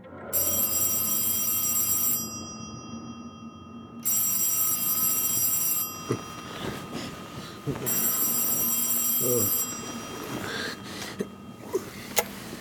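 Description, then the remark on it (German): An old-fashioned telephone bell rings three times in long, evenly spaced, loud bursts around 12:30 on a clear November night in 1931: a call from an assistant physician. Faint rustling and a throat-clearing sound follow the last ring. “Alles hatte vergleichsweise harmlos gegen 12:30 in einer klaren Novembernacht des Jahres 1931 mit einem Telefonanruf meines Assistenzarztes Dr. Braille begonnen”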